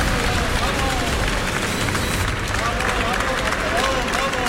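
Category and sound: crowd, applause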